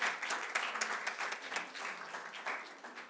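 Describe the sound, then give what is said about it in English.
A church audience at a Christmas service applauds steadily, many hands clapping in a dense, continuous patter for the people who prepared treats, staying fairly loud for the whole stretch without anyone speaking. “Give them a hand clap this morning.”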